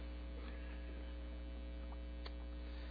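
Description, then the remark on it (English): A steady, low electrical-sounding hum from air conditioning that has just been repaired and is back on, running unchanged throughout, with a faint buzzy overtone and a few soft clicks in the background; no one speaks. “And we can thank the Lord that He saw fit to bless the labors of those who were working on the air conditioning, because it is now back on.”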